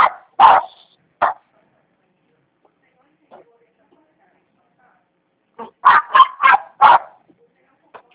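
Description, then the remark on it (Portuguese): A dog barks in two bursts: a few sharp barks at the start, then a rapid volley of five or six barks near the end, loud with quiet gaps between, heard during a phone call. “Tem como se aproximar um pouquinho do cachorro, porque a ligação”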